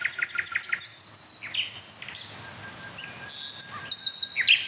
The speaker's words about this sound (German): Aber ich habe gerade das Gefühl, dass die Nachtigallen jetzt so richtig in Fahrt kommen. So richtig aufdrehen.